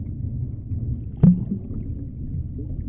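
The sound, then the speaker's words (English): A car sinking fast into a river after an accident: a deep, muffled underwater rumble with low churning, broken by one dull thud partway through. No voices. “The car sank fast.”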